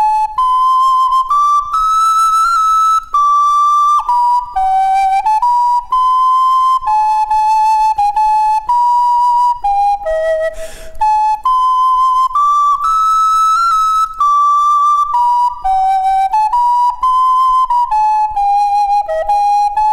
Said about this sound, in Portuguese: De um lado, a gente assopra e com os dedos vamos tampando e destampando os furos. A distância entre os furos e o tamanho do instrumento faz soar sons agudos, médios e graves. Vamos escutar um trecho de música com uma flauta doce.